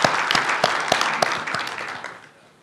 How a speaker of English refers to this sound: So maybe let's give a round of applause to ShapeBlue for sponsoring the CloudStack conference.